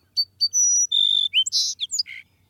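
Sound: song sparrow singing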